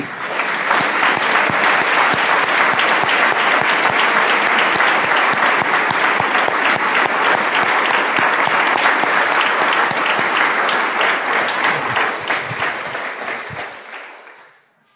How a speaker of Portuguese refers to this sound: Podemos aplaudir o nosso Deus?